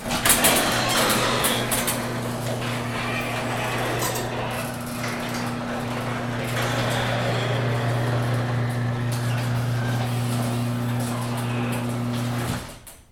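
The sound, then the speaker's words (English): A garage door rumbles shut, its motor holding a steady low drone under continuous rattling and clanking for about twelve seconds before it abruptly stops. No one speaks. “Well, I suppose while we're out here, we can record the garage door closing.”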